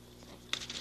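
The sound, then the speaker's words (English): A short burst of crisp paper rustling, a sheet being picked up and handled with a quick crinkle for making leaf rubbings at a kitchen table, over a quiet background hum. “Get some paper”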